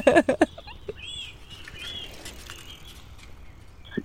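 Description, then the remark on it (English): A bird calls with a few quick, sharp chirps at the start, followed by thinner whistled notes and faint twittering against a quiet outdoor background, with one more brief note at the end. “It's like, oh, mommy doesn't know the name of this bird. We will find out.”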